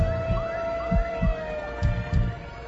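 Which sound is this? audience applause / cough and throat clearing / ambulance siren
ambulance siren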